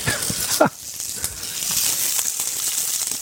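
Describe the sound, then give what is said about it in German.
A loud, steady sizzle of shrimp frying in a hot pan with garlic, chili and rosemary, a constant bright hiss with faint crackles after a brief clatter at the start. “Jetzt ist heiß genug. Und dann die Garnelen.”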